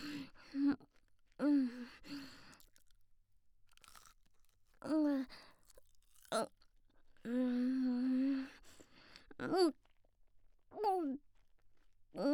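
Crunchy chewing of a croquette comes in several short bursts, with mouth noises and brief voiced hums and breaths between bites. Nobody speaks any words.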